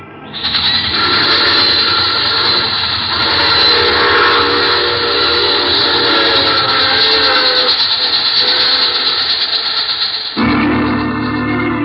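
A loud train roars along with a long, shrill steam whistle wailing over the rumble, then cuts off abruptly near the end. No one speaks.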